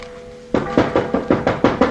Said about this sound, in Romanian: E miezul nopții. Mă duc să bat la ușă.